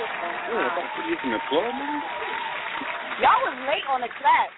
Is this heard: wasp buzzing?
no